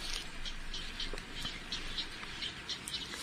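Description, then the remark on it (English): Many birds chirp outdoors on Aotea, New Zealand, in a quick, overlapping stream of short high calls that continue throughout, fairly soft, with no one speaking. “There's so many birds on Aotea.”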